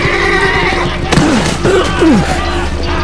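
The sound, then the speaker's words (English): A horse, a rouncy ridden in a saber battle, neighs as it rears in a series of shrill, wavering whinnies over about a second, loud, preceded by a sharp thud and set against a steady rumbling background. “The horse's withers tensed. Garin sensed it would rear and try to shed him.”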